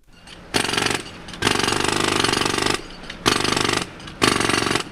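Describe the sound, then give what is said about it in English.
Jackhammers pound loudly in four bursts of rapid, rattling hammering, separated by brief pauses filled with low street rumble, during reconstruction of Wacker Drive in Chicago, in front of NPR's Chicago Bureau. “Jackhammers, saws, drills, bulldozers, noisy on the street, but luckily not loud enough to infiltrate NPR's studio on the 14th floor.”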